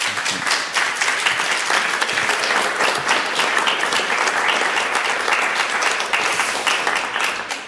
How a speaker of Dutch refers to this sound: Dankjewel Guillaume Bijl. Geef hen een applaus, alsjeblieft.